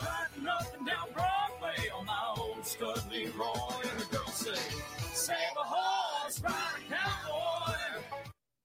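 A loud, busy country-style song with banjo plays throughout, with a children's choir shouting along in the background behind the lead vocal, continuing until the track cuts off abruptly.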